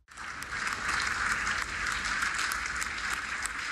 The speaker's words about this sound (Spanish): Con un aplauso y de pie, los miembros de la Unión Europea reconocieron al presidente Volodymyr Zelensky por su férrea voluntad de defender su país y los valores democráticos frente a la invasión rusa.